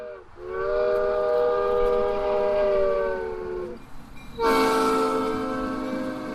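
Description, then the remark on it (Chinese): The horn of the Alice train, a small two-carriage train like a miniature steam train with red wheels, running on a railway around the Alice's House book café, sounds in two long, loud blasts with a brief gap between, over a steady rumble of the moving train. No one speaks. “建筑物四周有铁路环绕，铁路上的爱丽丝列车只有两节小车厢，可爱的爱丽丝列车将会把游客带到爱丽丝仙境。”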